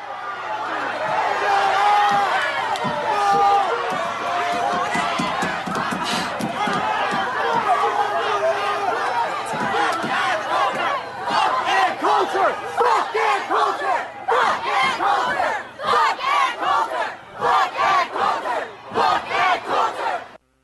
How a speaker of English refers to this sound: You probably saw video clips of Ann Coulter arriving at Berklee College to give a talk. In case you didn't, here are the sound effects. Warning, they contain shouted obscenities.